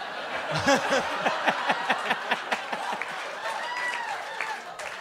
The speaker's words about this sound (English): By the way, you guys are applauding